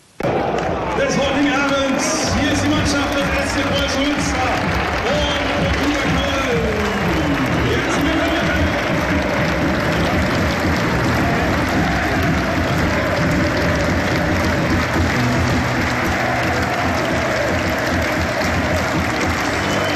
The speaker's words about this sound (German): So, hier sind sie, die exklusiven Aufnahmen aus dem Preußen-Stadion. Große Stimmung in der Regionalliga.